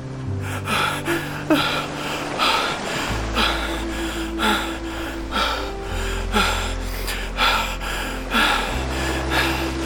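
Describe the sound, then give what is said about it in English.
Ragged, gasping breaths from frightened disciples in a boat on a calm lake come in quick, uneven bursts, one after another throughout, over a low, steady droning tone. “The only sounds now were the gentle lapping of water against the hull and the ragged breaths of the disciples.”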